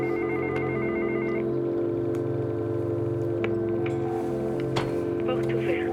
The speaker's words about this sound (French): La main d'une femme qui t'appelle, l'interphone en bas du bâtiment, toi qui t'approches, qui sonne.